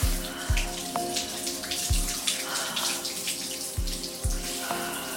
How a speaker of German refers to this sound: Und jetzt kalt duschen. Ich dusche immer erst warm und dann zum Abschluss noch eine Minute nur mit kaltem. Das Wasser, wenn es bei uns aus der Leitung kommt, im Winter, ja, wahrscheinlich so 14, 15 Grad.